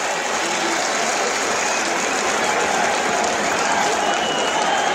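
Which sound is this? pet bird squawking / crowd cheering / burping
crowd cheering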